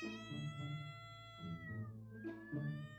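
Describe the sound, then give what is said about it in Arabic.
A domestic cat named Mozart meows in a few drawn-out, tonal cries, each swelling and fading in a slow rhythm, with no talking over it. “نعم، أنا أمتلك ثلاث قطط، واللص هو قطي المفضل من بينهم، قطي اللي سميته موتسارت نسبة إلى الموسيقار النمساوي فولفانغ أماديوس موتسارت.”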